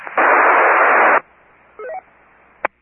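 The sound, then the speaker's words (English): A loud, steady burst of radio static hiss lasting about a second, a long radio repeater squelch tail, cuts off abruptly, followed by a brief rising electronic beep sequence and a sharp final click. “There might have been a double in there, but with that long tail squelch, I could not tell.”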